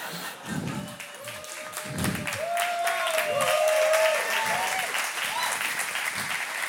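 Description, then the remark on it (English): An audience applauds in a steady, moderately loud wash of clapping that carries through the whole stretch, with a few low thumps and scattered voices calling out over it. “Now, not everybody clapped on that.”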